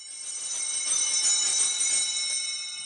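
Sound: bell ringing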